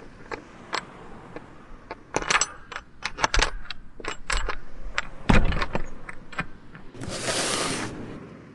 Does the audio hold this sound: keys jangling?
yes